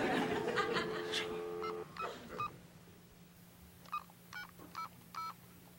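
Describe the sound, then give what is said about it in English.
A telephone is dialed: a series of short two-tone keypad beeps, about five presses at an uneven pace, heard clearly after some brief laughter-like sounds and a low steady hum. “Yo, Tommy, pick up the phone. Come on, man, pick up the phone, man.”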